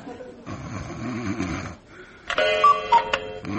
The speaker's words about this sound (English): Hey, Mr. McCann, what do you think of my cuckoo clock? Eh? Oh. Do you think she'll like it?